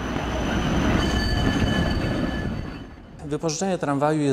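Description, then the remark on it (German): A Wrocław (Breslau) tram rumbles steadily along its rails for about three seconds, thin high wheel squeals ringing above the roar, before it fades and a man starts talking. “Dass aber Rechtsextreme unlängst eine Breslauer Straßenbahn mieteten und ungestört zu einer rollenden Propagandaplattform machten, dafür will er nicht die Verantwortung übernehmen.”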